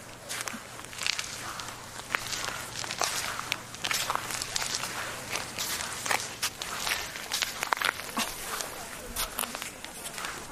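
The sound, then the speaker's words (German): Footsteps crunch over small shells and pebbles on a wet beach at Travemünde, walking right along the water's edge on a calm, windless day, a steady walking rhythm of sharp, crackling crunches that stay fairly loud throughout. “Hier liegen kleine Muscheln und Steine. Und deswegen hört es sich so ein bisschen nach Knacken an.”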